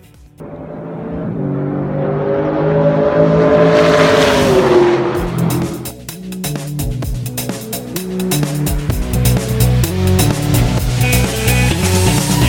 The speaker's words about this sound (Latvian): Kā tas izklausīsies kopā start finiš taisnē? Es domāju, ka tas varētu būt iespaidīgi, jo, kā jau teicu, ierakstīt tikai vienu mašīnu un vienu mašīnas skaņu, un to arī jums atskaņošu tūlīt pat